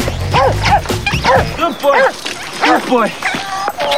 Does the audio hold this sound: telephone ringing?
no